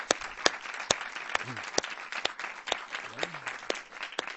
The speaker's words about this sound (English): So please join me in a round of applause and support for these great sponsors.